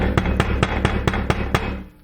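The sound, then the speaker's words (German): A tobacco pipe is knocked against a cork ash knocker to empty out leftover ash, about seven times in quick, steady succession, fairly loud over a constant background hiss, with no talking. “Jetzt muss ich auch nochmal so drauf hammern, oder?”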